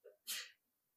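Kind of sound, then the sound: human body sound, sneeze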